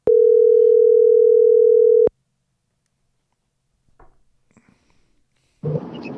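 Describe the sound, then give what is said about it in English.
An outgoing phone call's ringing tone sounds once, a loud steady two-second hum, then stops. Near-silence follows with a few faint clicks, and a burst of noisy rustling comes at the very end. “I'll just give him a call.”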